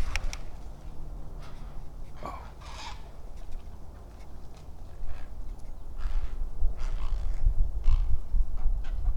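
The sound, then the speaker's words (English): Harsh heron squawks burst out in short, broken calls at their nests by a creek, over a steady low rumble of wind or water, some loud, others fainter. “Okay, let's see if we can get some squawks out of him.”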